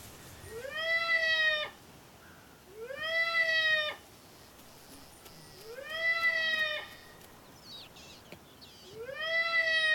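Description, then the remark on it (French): A baby seal's distress cry played back four times through a loudspeaker as the first sound of an experiment: long, loud, wavering wails that rise at the start and hold a bleating, nasal tone, separated by short pauses with no one talking. “Le premier son diffusé sera le cri de détresse d'un bébé phoque.”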